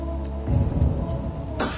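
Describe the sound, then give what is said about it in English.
Low, muffled murmuring gives way to one short, sharp cough right at the end, distinct against the quiet background: a deliberate cough used to signal the correct answer to a contestant on a TV quiz show. “would signal correct answers with a cough.”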